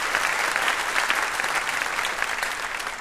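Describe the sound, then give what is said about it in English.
An audience of the show Ask Me Another claps for guest Piper Kerman in a dense, even wash of applause that holds at a fairly loud level for about three seconds, with no voices standing out. “What a round of applause for Piper Kerman.”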